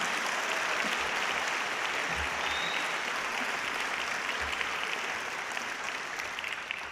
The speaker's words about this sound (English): Let's give her another applause, okay? Put some inspiration.